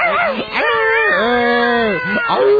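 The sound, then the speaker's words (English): Several loud cat meows in quick succession, including one long, wavering, drawn-out cry in the middle, with a short yowl starting at the end. “Shut up. All of you, shut up. For God's sake, spay or neuter your cats and dogs.”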